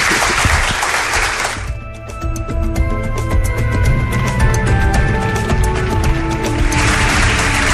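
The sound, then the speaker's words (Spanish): A burst of studio audience applause for a guest on a Canary Islands broadcast opens, then gives way to a bright musical jingle with sustained tones, and clapping swells back in at the end. No one speaks. “Pido un aplauso para gracias él.”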